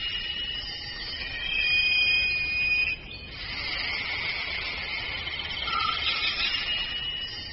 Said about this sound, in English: As the afternoon wears on, a different set of players begin to warm up. Insects work in harmony, timing their calls to fall between the notes of others.